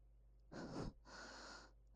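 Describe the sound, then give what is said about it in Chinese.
Two close, breathy exhalations in quick succession, a short heavier one followed by a longer, softer breath, like quiet panting against a hushed, still background. “好安静，安静的只能听到我们的呼吸声，还有娇喘声。”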